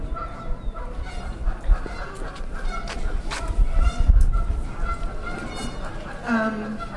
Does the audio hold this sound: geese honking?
yes